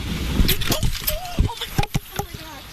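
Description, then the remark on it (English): A car strikes a reporter outdoors during a live TV broadcast in Dunbar, on wet roads: a sudden thud followed by a burst of clattering knocks and jostling bangs, loud, with brief vocal sounds and street noise around it. “I just got hit by a car, but I'm okay,”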